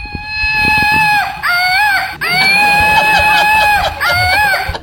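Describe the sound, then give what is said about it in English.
A Woot Monkey, a screaming flying monkey toy sent by the company Woot, is shot into the crowd at a show and lets out a loud, shrill, wavering screech that keeps going for several seconds, broken by a few brief catches, with no one talking over it. “This company named Woot sends them to me, and I always shoot one into the crowd, and it makes this noise.”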